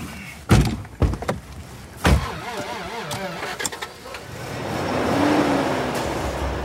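car door closing

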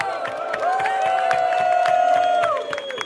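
audience applauding and cheering

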